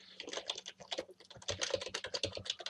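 Rapid, irregular clicking of keys on a computer keyboard, a steady stream of taps with brief pauses between bursts, heard alone without any voices.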